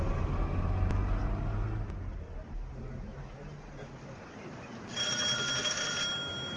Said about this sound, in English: Thank you for opening the car door for me.